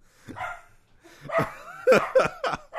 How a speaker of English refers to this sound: There's an extra dog here today. Yeah, there is. You know what? That wasn't someone coming to the door. That was just them freaking out. Just the dog being like, hey, I'm a dog.